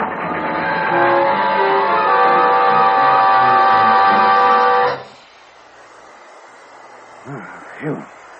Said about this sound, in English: Hey, look, the train's off the track. Must have been that switch back a ways.